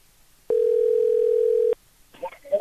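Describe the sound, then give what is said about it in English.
A loud, steady telephone dial tone hums for just over a second after the other person hangs up, then cuts off abruptly, and a voice begins talking shortly after. “Okay, he hung up.”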